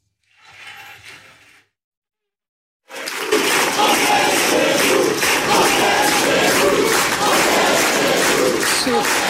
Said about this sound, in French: On est chez nous, crié par la foule face à vous. J'ai quand même dû le réécouter plusieurs fois parce que c'est un cri que l'on entend habituellement dans les meetings du Front National ou aujourd'hui du Rassemblement National.